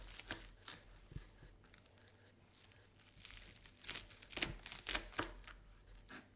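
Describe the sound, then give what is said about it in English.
A knife slices through spring onions on a board while preparing a chicken and rice dish, making crisp, crunchy cuts at an irregular pace. The cuts start quiet and sparse, then turn louder and closer together near the end. “Slice some spring onions up.”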